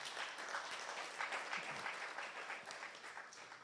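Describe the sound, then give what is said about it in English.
A church audience claps together as a clap offering to the Lord, in a dense, steady burst of applause, many hands overlapping into a continuous bright crackle that holds at an even level for several seconds without any voices. “Let's give the Lord a wonderful clap offering.”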